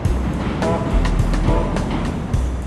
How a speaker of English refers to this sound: So, we are on the Chicago River. We're in what's considered the main stem on the Riverwalk, right in downtown Chicago. As you can probably tell by the noises.